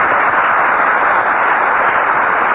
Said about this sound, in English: Thank you, and good evening, ladies and gentlemen. It's too bad to have you applaud so frequently there. I was going to use that other reception, make it do for this, but of course, if you're in the mood.